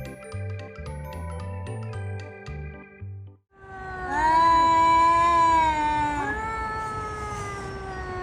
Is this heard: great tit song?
no